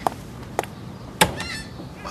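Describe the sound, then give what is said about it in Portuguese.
Three sharp knocks on a door, evenly spaced about half a second apart, fairly loud, with no voices. “Parece que alguém bateu a porta, né?”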